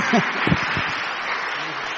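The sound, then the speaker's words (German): A steady wash of audience applause, many hands clapping at once in a dense, even patter, with a brief murmur of voices at the start. “Einmal ein Applaus.”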